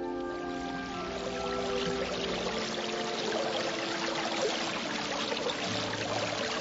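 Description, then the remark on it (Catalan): Water from a mountain spring runs and splashes steadily over rock, a continuous babbling flow with bright gurgles and no voices. “La font mitjancisada esperava per néixer i vorejar la roca amb un ordre de la nit.”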